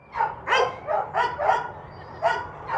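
Several adoption dogs in outdoor concrete-floored kennels bark loudly at a stranger with a microphone, a quick irregular run of about seven sharp barks in under three seconds, some overlapping, no one talking. Leading them is Bellamy, a 2-year-old brindle mix standing on his doghouse.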